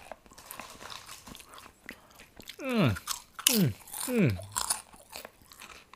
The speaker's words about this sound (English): Or chips. I call chips in America. Isn't that crunch up? Beautiful.